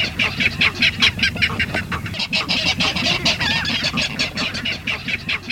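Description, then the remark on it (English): A California clapper rail gives a loud, rapid series of harsh, clattering kek notes, repeated steadily for several seconds, with no talking. “the California clapper rail has allies.”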